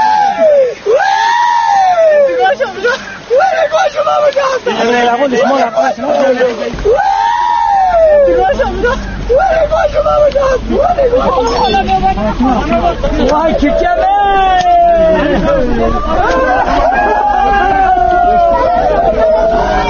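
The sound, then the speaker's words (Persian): A crowd of women and men mourners wails and laments loudly and continuously over the ground where their loved ones lie trapped, at a village site where 66 people were buried and which was named the Hill of Martyrs; overlapping cries rise and fall in long sobbing contours, with agitated voices mixed into the dense grief. “و اما بعد از آن که تپه از حضور مردان بیگانه مانند امدادگران خلوت شد، خیلی از زنان و مردان به آنجا شتافتند و بر سر خاکی که عزیزانشان در آنجا گیر مانده بودند شیوان و زاری را سر دادند.”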